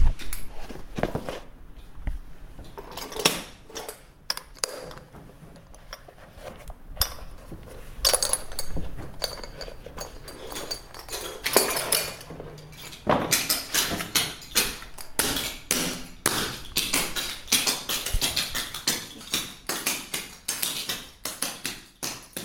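Clogging steps in clog shoes: sharp, bright clacks and taps in quick, uneven bursts, sparse at first, then growing busier and denser toward the end, with no talking.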